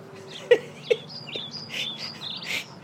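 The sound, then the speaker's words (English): A finch chirps in a rapid run of short, high, bright notes, moderately loud, with two soft knocks near the start and no one speaking. “He's got nice decorations around his eyes, and this finch, who could not look more innocent and, you know, unassuming, is actually thinking in his bird head”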